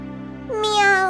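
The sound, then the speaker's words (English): A single drawn-out cat meow rises and swells midway through, loud, over a steady low hum that runs throughout. “Meow, meow. I smell mice.”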